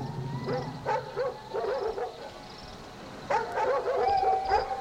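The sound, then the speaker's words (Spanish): Dogs bark in several short bursts, an early cluster and then a louder run of yelping barks near the end, with no voices. “A la séptima noche, en cuanto oyó los ladridos, salió de su casa.”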